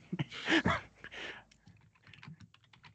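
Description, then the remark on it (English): Rapid clacking of a mechanical keyboard, with a burst of loud keystrokes at first that trails off into quieter, irregular taps. “they have that mechanical keyboard in the back.”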